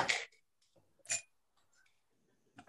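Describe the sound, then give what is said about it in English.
Ice cubes clatter into a mixing glass for a whiskey cocktail in three sharp, bright bursts, the second leaving a short glassy ring, with near-silent pauses between them. “I just grabbed my mixing glass and then some ice inside.”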